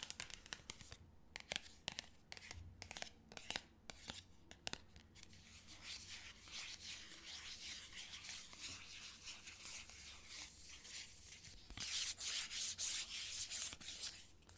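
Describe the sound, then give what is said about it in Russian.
Crinkling and rustling of a small bag as items, including a product sample and a business card, are packed into it, with sharp crackles at first, then steady rubbing that gets brighter near the end. No one speaks. “Тоже идет в пакетик.”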